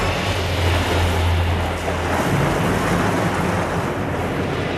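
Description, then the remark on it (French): Steady, loud wind blows across the microphone with a constant rushing hiss, like a gusty seashore, continuing unbroken without any voices; seagulls can be heard calling as well. “On l'entend, le vent qui souffle. Et on entend les mouettes aussi.”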